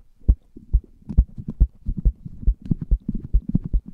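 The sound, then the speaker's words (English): Three people on a 98.7 ESPN radio show bang their heads against a microphone: heavy, muffled thumps, about two per second in a steady rhythm at first, then turning denser and more irregular, with a boomy low thud to each hit. “Let's all three of us bang our head against the mic.”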